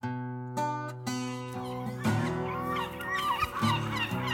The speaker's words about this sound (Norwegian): Er det mulig å dempe seg litt grann? Vi skal gjøre opptak her. Måker som ute nå. Sikkert vårt tegn.